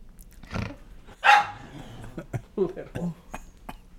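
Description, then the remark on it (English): A female dog lets out a sharp, fairly loud bark, followed by a few shorter yaps and growly sounds, with people's voices murmuring in the background. “God, this dog is gonna kill me.”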